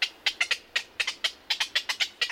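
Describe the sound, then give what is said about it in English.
Black-crowned night herons call in a rapid, uneven burst of about a dozen short, harsh squawks, fairly loud, with no voices present. “For black-crowned night herons, a city zoo can be home sweet home.”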